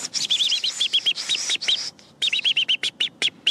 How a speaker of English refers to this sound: Robin's alarm? Yeah, know that one. That means somebody's coming with a lot of angry energy, okay?